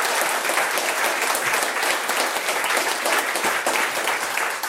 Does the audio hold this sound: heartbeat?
no